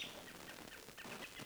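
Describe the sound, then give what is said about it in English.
Robins giving alarm calls in the woods, a scatter of short, high chirps repeating irregularly over a second and a half, fairly soft against a steady hiss of background noise. “Robins all over the area are calling.”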